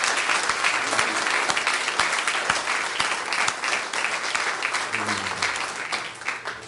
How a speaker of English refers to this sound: So God's a good God, isn't he? Amen. Let's just give him a hand clap of praise.